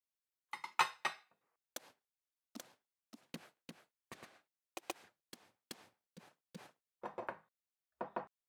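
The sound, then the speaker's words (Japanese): Dishes and cutlery clink and clatter as they are cleared and stacked after a home-cooked meal, a steady series of sharp knocks and chinks with short pauses between, and no voices. “じゃあ食器片付けよっか。”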